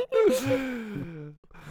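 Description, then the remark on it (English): A person vocally imitates an otter with a squeaky, whiny call that rises then slowly falls in pitch, held for about a second before a brief pause and a softer breathy trailing sound. “And otters actually make kind of cute noises, like. That was my attempt.”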